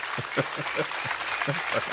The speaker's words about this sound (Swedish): Mer applåder till mig, tack. Mer applåder till mig, tack.